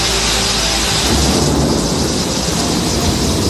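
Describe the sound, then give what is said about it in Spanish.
Heavy, torrential rain pours down steadily while deep rolling thunder rumbles, filling the scene with a loud, continuous roar and no voices. “De nuevo la lluvia torrencial.”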